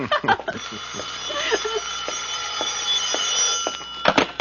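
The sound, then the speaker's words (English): A telephone at Miss Street's residence rings with a steady, rapid metallic bell trill through most of the moment, while brief bits of voices come through near the start and end. “Well, the street to your phone is ringing.”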